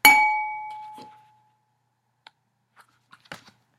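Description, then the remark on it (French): A lamp knocked over and broken by ducks: a sharp glassy crash rings out with a bright, sustained tone that fades over a second, followed by a few small scattered tinkles and clicks of falling pieces, with no voices. “Ces canards ont cassé ma lampe.”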